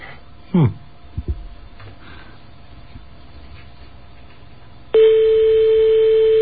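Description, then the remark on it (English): A European telephone ringing tone on a call to Hotel Libertel placed through a forwarding service dialed via a toll-free US 800 number: a steady, loud, mid-pitched electronic tone comes in abruptly after several seconds of faint line hiss, a short swooping blip and a couple of soft clicks. “The European ring.”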